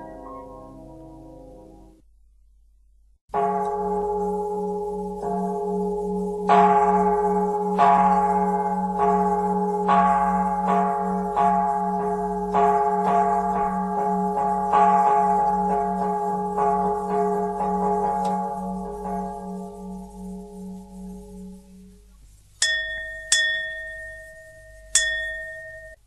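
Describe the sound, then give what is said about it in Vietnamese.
A deep Buddhist temple bell tolls the evening bell at a slow, steady pace, each stroke ringing out with long overlapping resonance, followed by a few bright, high chimes near the end. “Kìa, tiếng chuông chiếu mổ bắt đầu, tôi phải vào Phật điện lo thắp hương tụng niệm.”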